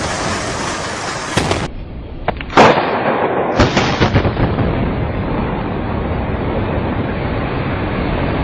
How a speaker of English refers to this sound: Secondary explosions taking place in that building. There were continuous explosions. We're hearing a number of large booms coming from that area. We can only guess what is going on.